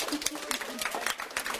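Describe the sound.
Class 6.1 of the Gesamtschule Bremen-Ost in Bremen, a group of children, applauding themselves in a quick, uneven patter of sharp claps, mixed with excited young voices calling out over the applause.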